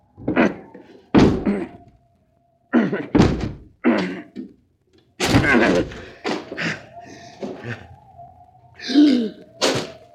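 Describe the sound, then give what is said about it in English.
A locked door is battered with a series of heavy, irregular thuds and bangs, loud, building to a louder crashing burst as it is broken down, followed by scraping and creaking. “The door is locked. I'll have to break it down.”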